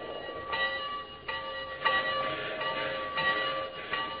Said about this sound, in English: Ladies and gentlemen, have you ever heard the crossing bell while you're on a speeding train? Or the bell on the locomotive itself? Was there ever more exalted music?